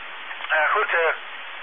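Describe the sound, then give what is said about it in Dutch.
Someone with something stuck in their throat clears it with a cough: two short, rough, voiced bursts in quick succession, moderately loud, with a thin, narrow-band telephone-like tone and no other talking. “En moet er even uit hoesten.”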